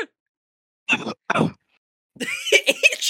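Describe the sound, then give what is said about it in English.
Two short coughs in quick succession from a person, then a longer, strained vocal noise after a brief pause. “You cough and said it all.”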